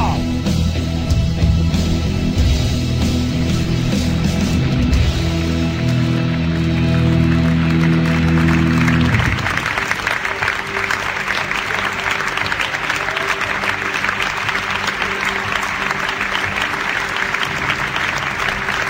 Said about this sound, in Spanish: Ahí está el aplauso, y sigue, y sigue, y sigue, y lo cortamos nosotros porque en realidad en Venecia siguió muchísimo más, y ahí estaba Gastón Duprat un poco asombrado